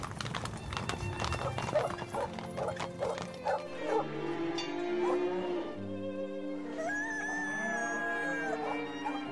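dog barking and whimpering

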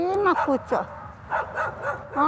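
stray dogs barking

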